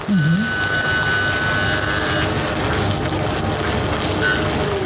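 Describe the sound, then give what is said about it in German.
Meat placed main side down sizzles loudly as it is seared in a hot pan, a steady, dense hiss and crackle lasting throughout, with a faint thin whistle-like tone over it for the first couple of seconds. “Tun wir es anbraten.”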